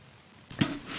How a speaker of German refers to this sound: Jetzt muss ich husten.